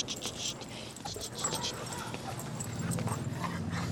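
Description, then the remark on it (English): A dog named Patriot plays with a field rep: scuffling, pattering and soft canine noises, with a low murmuring voice rising toward the end. The sounds are fairly steady. “The field rep plays with the dog.”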